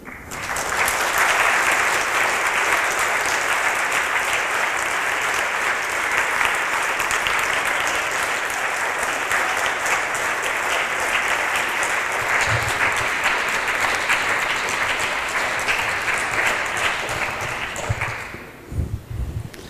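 Sustained, loud applause from a large audience after a lecture fills the space for nearly twenty seconds, a dense steady clapping that only thins out and fades at the very end.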